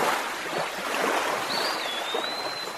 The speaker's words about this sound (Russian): Светлое озеро казалось большим, потому что не стало прибрежной зелени. Прозрачная вода потемнела, и в берег шумом била тяжелая осенняя волна.